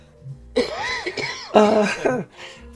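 coughing fit

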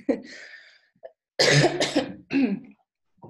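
repeated coughing

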